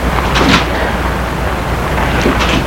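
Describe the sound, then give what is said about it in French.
A car door shuts with a muffled thud as a man gets into his car, over a steady low rumble, followed a couple of seconds later by a second, similar dull knock. “Il entre dans sa voiture”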